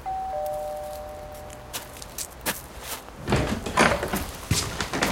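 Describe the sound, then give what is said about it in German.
A doorbell rings with a two-tone chime, its notes held for nearly two seconds, followed by the clunk and rustle of a door opening and footsteps. “Bereit? Ich klingel mal.”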